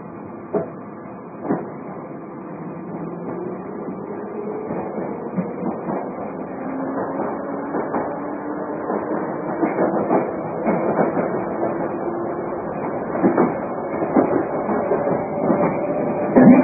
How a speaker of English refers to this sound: This is South Harrow. This is a Piccadilly line service to Rainers Lane.